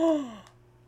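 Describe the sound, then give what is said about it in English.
A cat lets out one short meow that slides downward in pitch and fades quickly, with no voices around it. “the cat does not. Yeah. Agree.”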